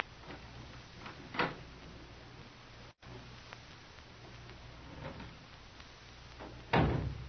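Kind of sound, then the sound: household object, door opening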